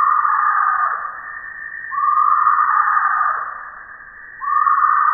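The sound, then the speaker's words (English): A tree hyrax, a small furry mammal of central Africa found from Liberia to Uganda, calls with a series of loud, drawn-out cries, each sliding downward in pitch before the next begins. The calls repeat steadily with no voices, and the sound is slightly muffled. “This is the call of the tree hyrax, a small furry mammal that looks like a cross between a groundhog and a ground squirrel, minus the bushy tail.”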